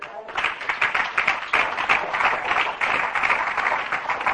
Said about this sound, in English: But God has done his best to make sure that this Bible is in our hands. We ought to give God a clap offering for that.